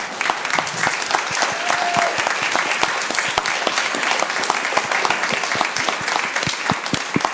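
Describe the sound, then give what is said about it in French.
An audience at a church service applauds the birth of a baby boy, a steady, dense patter of many hands clapping at an even loudness without pause, with no voices standing out. “Maman, papa et le petit vont bien et je vous propose qu'on les applaudisse.”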